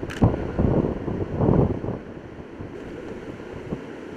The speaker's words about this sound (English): Notice the wind just picked up 5 to 10 miles an hour just all of a sudden, and the waves are already showing that.